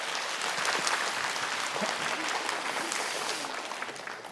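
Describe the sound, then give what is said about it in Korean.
An audience at a lecture on a large stage in Incheon, South Korea claps steadily to welcome the speaker, a dense wash of hand claps that holds for several seconds and then begins to thin out toward the end. “박수로 청해 주세요. 박수 주세요.”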